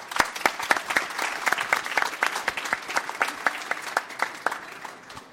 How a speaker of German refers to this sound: Einen herzlichen Applaus für dich.